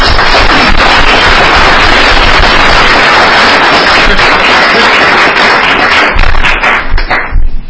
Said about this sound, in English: And I want to give my compliments not only to the treasurer, but her incredible staff, who deserves a big round of applause.